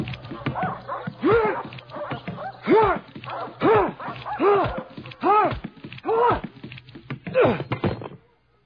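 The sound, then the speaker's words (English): Dogs bark and whimper in a loud run of about eight yelping calls, each rising and falling in pitch, spaced unevenly over several seconds with no talking. “The dogs will get their turn.”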